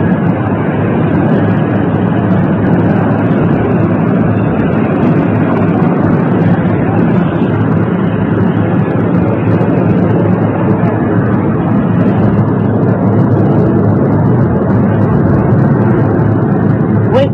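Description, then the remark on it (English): A helicopter engine roars steadily inside the cabin on a flight from Andrews Air Force Base to the South Lawn of the White House in Washington, a loud, unbroken droning rumble with dense low hum and hiss that holds constant for the whole stretch. “Inside the helicopter, you can see aides talking in animated, very concentrated conversation.”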